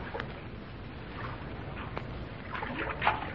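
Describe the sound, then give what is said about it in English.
Water sloshes and splashes steadily around a small canoe as Deerslayer and Judith take to the water searching for a second canoe, with a few sharper paddle-like splashes breaking through a continuous wash of moving water, moderately loud. “He and Judith have taken to the water again in search of the second canoe.”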